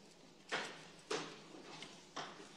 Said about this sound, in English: A steel door closes at the top of the stairwell.